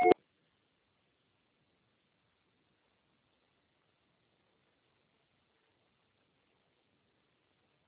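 signal or alarm, voicemail recording tone

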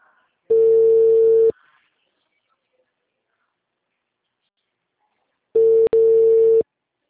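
signal or alarm, telephone busy signal tone

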